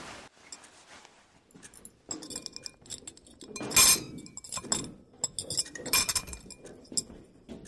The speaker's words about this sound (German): Hilf mir, das Geschirr abzuräumen.